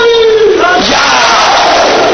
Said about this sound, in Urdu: یہ نعرے لگانے کی, جو نعرے لگانے ہیں مجلس میں وہ یہ نعرے لگانے. نعرے خیر بھی لگائیے, لبے کیا حسن لگائیے, یہ نعرے یہاں پہ لگانے کے.